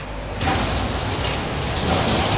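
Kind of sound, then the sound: ambience, construction site noise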